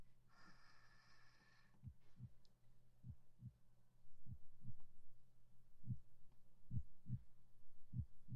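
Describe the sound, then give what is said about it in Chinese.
A muffled heartbeat of a teacher heard through a stethoscope placed on the chest, steady paired lub-dub thumps over a low hum, after a brief scratchy rustle at the start. “带上这个听诊器呢，老师让你听听我的心跳。”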